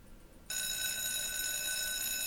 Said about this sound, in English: So, okay, that's the school bell here